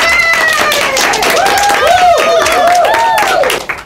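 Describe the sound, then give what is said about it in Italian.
Dense applause from a crowd for children who completed a three-hour workshop, with rapid overlapping claps and excited high voices cheering over it, loud throughout before fading at the very end. “Io voglio fare un applauso a questi bambini e a questi dinamici che hanno portato a termine un laboratorio di 3 ore in questo modo così splendido.”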